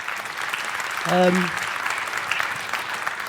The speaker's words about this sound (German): Ja, erstmal einen herzlichen Riesendank und einen großen Applaus.